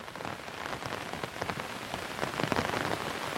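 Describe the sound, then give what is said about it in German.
Steady rain falls onto a hard surface, a dense, continuous hiss broken by many crisp droplet patters that swell slightly toward the end, with no voices. “Ein warmer Lichtschein fällt heraus, mischt sich mit dem silbrigen Schimmer des Regens.”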